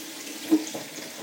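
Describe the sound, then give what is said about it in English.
Boiling-hot water runs steadily from a tap into a sink as something is washed and rinsed, a continuous hissing splash with a brief louder gurgle partway through, no voices. “If I don't let the water get too full, I can wash it in the sink and then I can rinse it under the tap.”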